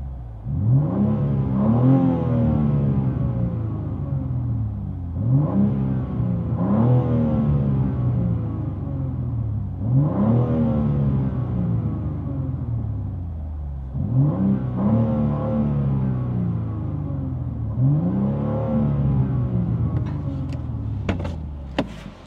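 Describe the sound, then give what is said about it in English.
A car engine revs hard several times in a row with a loud exhaust, its exhaust valves fully open in M2 mode and Sport Plus, each rev rising in pitch and then dropping back, with no one speaking. “And this right here is now, if you guys can hear me, this is M2 mode where everything is open. Now we're in Sport Plus.”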